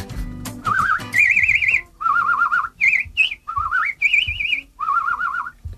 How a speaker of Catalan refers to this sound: Això és un senyor silbando en Canàries.